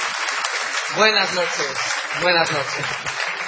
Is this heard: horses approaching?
no